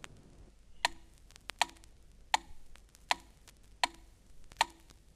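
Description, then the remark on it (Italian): A metronome ticks steadily at 80 beats per minute, six crisp, sharp clicks evenly spaced in a quiet, steady rhythm with no talking. “Il metronomo, che è uno strumento perfetto, ti può dare battiti in numero di 40 a 200 circa al minuto.”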